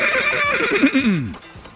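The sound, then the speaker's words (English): Patrick the horse, beside an old wooden wagon, whinnies: one shrill, wavering neigh that slides downward in pitch and fades out after a bit more than a second. “Sitting next to Patrick the horse.”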